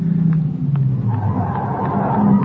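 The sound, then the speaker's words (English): A car engine rumbles low and steady, its tone shifting slightly as the car slows and pulls up on a road after being flagged down, with faint clicks over the drone. “After my head clears, I make it to the road and flag down a car.”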